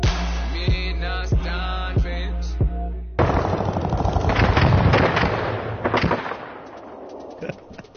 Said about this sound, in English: Really? Yeah, those sound effects were not supposed to sound like that. I need to get new gunshots. I was like, what? I'll admit I fucked up. That wasn't war right now. That wasn't a Mac 10. That was a 22. I need new gunshots.